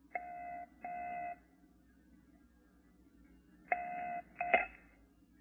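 telephone dialing tones

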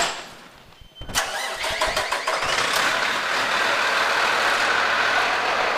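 fire truck engine starting

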